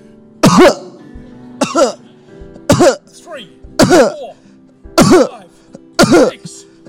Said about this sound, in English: And the son coughed 7 times. That's your cue.